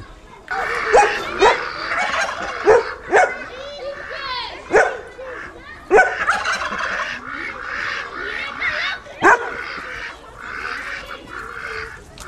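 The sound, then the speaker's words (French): A group of ducks quacks loudly, their harsh, raspy calls overlapping in a busy, continuous chatter with sharper bursts popping out every second or so. “Je sais pas si vous avez entendu le bruit de ces canards qui est vraiment différent des autres.”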